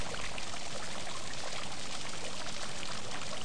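Steady running water pours and splashes continuously from a stone fountain in a garden, streaming down over ornate carvings, an even rush with no voices.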